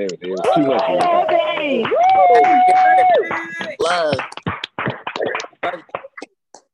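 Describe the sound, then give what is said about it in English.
An audience whoops and cheers with loud sustained voices, then breaks into scattered, uneven clapping in sharp bursts. “Let me get your mics and clap for everything that just happened.”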